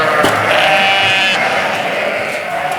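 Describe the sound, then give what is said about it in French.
A flock of ewes bleats loudly and continuously at feeding time, many overlapping calls filling the air with no clear pauses between them. “Et je vois aussi, vous avez des chèvres au milieu des brebis.”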